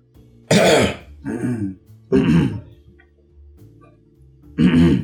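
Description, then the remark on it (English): Loud throat clearing repeated four times, harsh rasping bursts with short pauses between them and a faint low hum in the background. “Clear your throat.”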